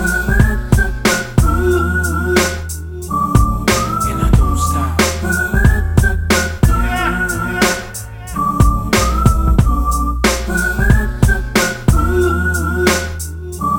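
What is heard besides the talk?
person whistling a tune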